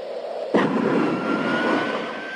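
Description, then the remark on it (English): A jet engine suddenly bursts into a loud, steady roar with a thin high whine riding on top, a jet taking off in the background of a 1985 Nike basketball shoe commercial as a man dunks, after a quiet rumbling start. “A man dribbles down a blacktop in slow motion, then elevates for a dunk to the sound of a jet taking off in the background.”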